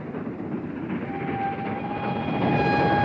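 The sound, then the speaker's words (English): A steady, loud rumble of a train running along the tracks, as from inside a no-smoking carriage, with a thin metallic whine rising in after the first second. No one speaks. “A man in a hat sits in a no-smoking carriage of a train when another man and a woman enter.”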